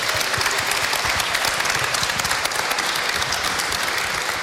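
An audience claps steadily, a dense wash of many hands applauding at an even, sustained loudness throughout, with no voices breaking through.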